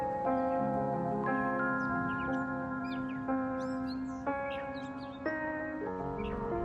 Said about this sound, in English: I walked up to As Long as the Sun Lasts the other day, and I heard all of these birds chirping. And I thought instantly, oh great, Big Bird has friends.